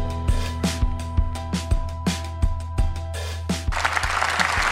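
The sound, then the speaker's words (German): Parliamentary applause in the German Bundestag from SPD, Greens and FDP members during Olaf Scholz's first government statement as Chancellor: a crowd claps in a steady, dense patter that swells toward the end, with sharper individual claps standing out over a constant low hum. “Eine Menge Applaus von SPD, Grünen und FDP.”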